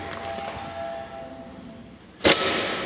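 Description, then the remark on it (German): A single short doorbell ring cuts in near the end, a sharp, brief buzzing burst, following a quiet stretch of steady background noise with a faint hum and no talking. “Und klingeln.”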